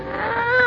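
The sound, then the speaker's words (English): A single drawn-out cat meow, fairly loud, its whiny pitch rising slightly as it goes, lasting under a second with no talking. “Oh, you stuck with me. Oh, thanks, Kitty.”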